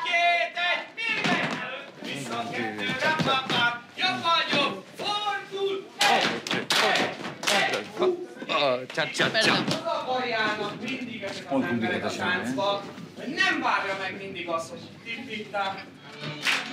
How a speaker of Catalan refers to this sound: Els homes piquen de mans i es donen cops rítmics a les cames.